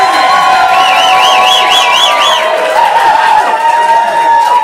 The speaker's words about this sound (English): A moment of absolute silence again. And then, like a sudden volcanic eruption, deafening cheers!